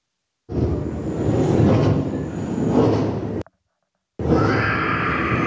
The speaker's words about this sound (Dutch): in de attractie zit een hele hoge piep die uit het attractiesysteem lijkt te komen